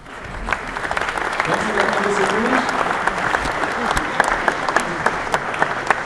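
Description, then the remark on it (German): A crowd applauds steadily for several seconds, a dense wash of clapping with some individual claps standing out, while a voice speaks faintly underneath; the audience at the official opening of the Interschutz trade fair welcomes the VDMA fire-technology managing director and the Deutsche Messe CEO onto the stage. “Herzlich willkommen, so haben Sie gerne und einen großen Applaus einmal auf unsere Bühne.”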